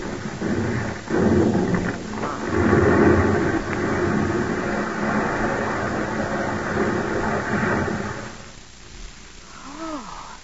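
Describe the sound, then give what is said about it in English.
A heavy, continuous rumbling roar of a landslide, not too close, heard from a car on a remote road: broad and loud for about eight seconds with crackling debris, then tapering off into quieter settling sounds. “Paul, that's a slide.”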